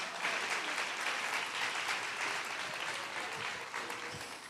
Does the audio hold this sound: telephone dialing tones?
no